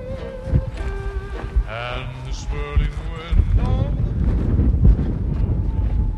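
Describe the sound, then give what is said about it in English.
Strong wind gusts roar and buffet the microphone on an open, dusty hillside, a low rumbling howl that builds toward the end, with a few brief bleating calls rising above it early on. “It was windy and dusty.”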